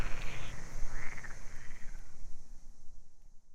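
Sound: frogs croaking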